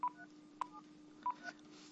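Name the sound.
telephone keypad dialing tones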